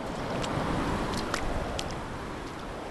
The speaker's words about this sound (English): The roaring sound of waves rushing along the sand to shore, the perfect soundtrack to anyone's holiday. I'm standing on Senegambia Beach, about 30 minutes' drive outside the capital, Banjul.